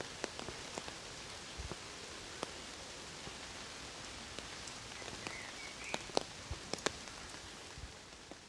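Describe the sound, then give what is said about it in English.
Steady rain patters on broad, paw-like, waxy tree leaves in a city green space along the banks of the Rhône, a dense hiss dotted with sharp drops, while a faint bird chirps briefly. No voices are heard. “Birds sing while a steady rain continues to cleanse the city's facade.”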